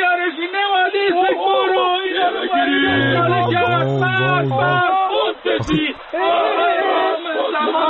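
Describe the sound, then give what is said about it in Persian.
A crowd at a rally against fancy bread shouts and chants together in loud, rhythmic bursts while setting fire to a huge cardboard bread box, many voices rising and falling in unison, with a brief lull partway through before the shouting resumes. “اینا توی این تجمعی که برگزار کردن دارن کارای انقلابی میکنن دیگه، الان هم دارن با نون فانتزی تصویر حساب میکنن.”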